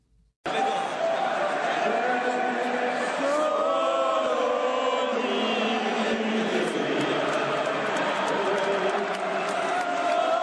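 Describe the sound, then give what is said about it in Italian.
A large crowd of football fans at San Siro stadium, at an Inter versus Juventus match, roars and chants continuously as the teams are welcomed onto the pitch, a dense wash of many voices with a droning, tuneless quality, steady and loud from start to finish with no pauses. “in questo coro simile ad ubriachi, in realtà sentito dal vivo era molto più impressionante. I tifosi di San Siro”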